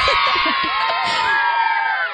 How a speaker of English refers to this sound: Insert screaming children sound effects here because that's pretty much all the commentary that I got during the film.